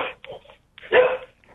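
A dog gives a few short barks, a quick pair of yaps followed by one louder, fuller bark, sounding slightly muffled and narrow, as if over a phone line.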